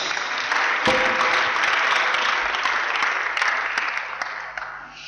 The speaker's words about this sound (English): So yeah, we can give him an applause again. Yeah.